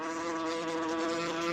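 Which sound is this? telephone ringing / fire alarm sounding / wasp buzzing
wasp buzzing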